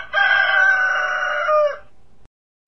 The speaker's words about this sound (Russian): На забор, захлопав крыльями, взлетел соседский заспанный петух и хрипло пропел свое.